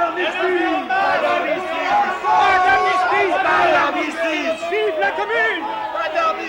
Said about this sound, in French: La foule s'amasse devant l'hôtel de ville.